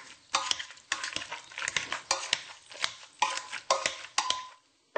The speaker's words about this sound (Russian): Я сварила уже картошку для пюре, так что нужно добавить только молоко из сои, где-то 1/4 стакана, постный маргарин, соль и все это мешаем.